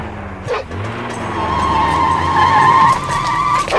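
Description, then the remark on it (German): A car tears away with tires squealing in a long, loud screech over a revving engine, the whine sustained for several seconds before easing off. “Er springt in den Wagen. Und jetzt fährt er davon.”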